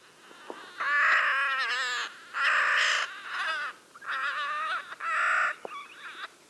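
A Clark's Nutcracker (Nucifraga columbiana), a gray and black bird of the crow and jay family, gives four harsh, grating calls, each drawn out for about a second with short pauses between, loud with no talking.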